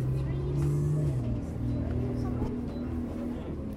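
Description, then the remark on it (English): A bus engine drones loudly from inside the cabin of a bus in Worcestershire, England, heading to Upton, its low humming tone shifting pitch as it revs and changes gear, with a steady road rumble throughout. “coming to you live from a bus in Worcestershire.”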